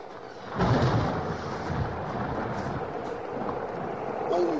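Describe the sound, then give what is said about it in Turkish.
Heavy rain pours fast in a steady, dense roar on a cold day while thunder rumbles low, swelling early and again near the end; faint voices murmur beneath the downpour. “Yağmurda ne kadar hızlı yağıyor.”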